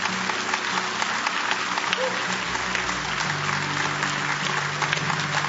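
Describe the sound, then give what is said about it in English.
A large crowd applauds and cheers steadily, a dense continuous wash of clapping that holds at an even, fairly loud level throughout, with a faint low hum underneath. “this is a cheering crowd.”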